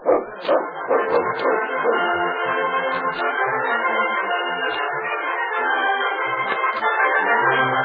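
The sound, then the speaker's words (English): Dogs barking loudly, starting with a few sharp barks and settling into a dense, continuous chorus of overlapping yaps and yelps that runs the whole time, with no talking. “My dog's had a hard race today, but he can still watch you.”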